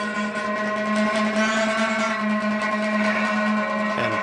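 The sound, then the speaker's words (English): Car tires rolling over a bridge at night produce a loud, steady buzzing hum with a strong musical pitch. It drones continuously throughout, shifting slightly in tone near the end, with no voices. “your car wheels run and glisten over that and make this kind of sound”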